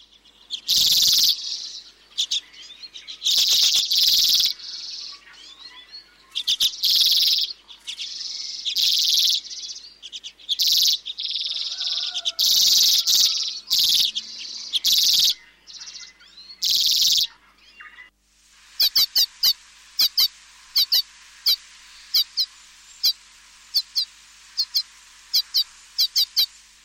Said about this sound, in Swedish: Hur känner man igen gråsiskan? Ja, den är ju lite rödaktigt bröst. Och en rött på huvudet har den också. Har den vacker sång då? Ja, det har den. Ska vi lyssna?